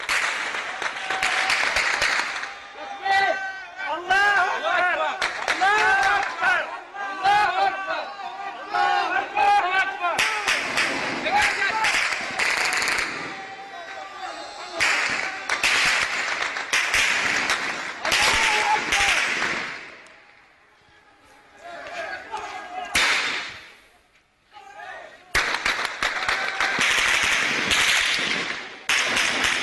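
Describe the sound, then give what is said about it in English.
Amateur video from Saudi Arabia: rapid bursts of gunfire crackle through a loud crowd whose shouts and chants rise over the shots. The firing comes in dense volleys, briefly thins out, then resumes at full intensity. “Listen to this gunfire.”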